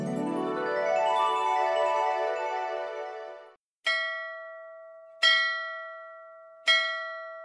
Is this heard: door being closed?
no